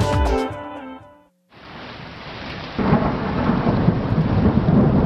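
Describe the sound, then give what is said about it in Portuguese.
A few short tonal notes give way to a steady, loud hiss of heavy rain, then a deep rumbling roll of thunder swells in and continues beneath the downpour. “A cada 50 mortes de raios no mundo, uma é aqui no Brasil.”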